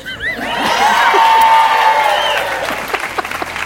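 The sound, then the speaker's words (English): A crowd cheers and applauds loudly, with whoops and high shouts rising over steady clapping, then the noise thins into scattered claps near the end. “the people needed to cheer me, so just...”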